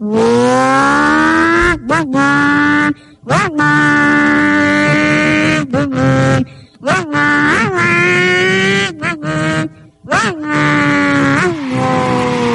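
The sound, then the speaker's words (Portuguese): A voice imitates a revving motorcycle engine, loud and close, with whining pitch climbs and drops broken by short pauses like gear shifts, carrying on steadily with no spoken words. “Olha, ainda faz a moto ainda tá reduzida assim.”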